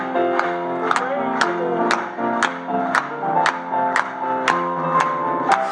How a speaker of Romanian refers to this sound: Să o aplaudăm Lui.